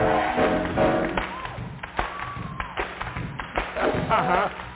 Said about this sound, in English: But let me tell you, I'm coming to clap my hands. Feel like having some touch in here. Hey, I'm coming to clap my hands.